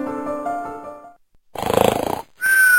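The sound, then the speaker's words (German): A loud rattling snore, a single breath of buzzing throaty vibration, framed by a steady low tonal hum before it and a high whistling tone right after. Nobody speaks. “Schnarchen, wie ein jeder weiß, kostet viele Nerven.”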